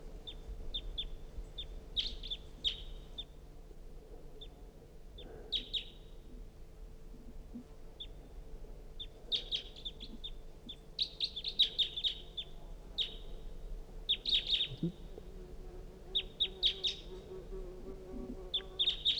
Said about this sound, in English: It's a recording. Pointed at the wild bird. It's giving calls. That was the decoys. Wild bird calling.